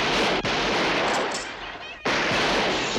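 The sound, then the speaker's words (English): A loud, chaotic barrage of gunfire in a shootout, as people shoot from the windows of a building and police officers return fire, with overlapping shots crackling almost continuously for about three seconds. The din briefly thins in the middle, then surges back at full force. “They shoot from the windows as the cops pile out. The cops return fire.”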